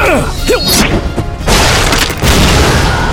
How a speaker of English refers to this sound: It impacted on the sand just behind the center of the advancing group of beastmen. The shields collapsed forward from the blast, and those primitives that weren't taken down by the explosion met the star darts and grenades head-on.